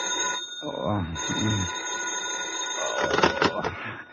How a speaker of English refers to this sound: It's almost noon when the phone wakes you.